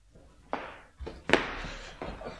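A door is opened as a man timidly peeks in: a few soft wooden clunks and a sharper latch click spaced over a couple of seconds, fairly quiet, with no voices.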